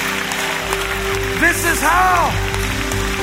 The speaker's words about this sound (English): Come on, let's clap our hands and thank God for his word. Come on, clap those hands.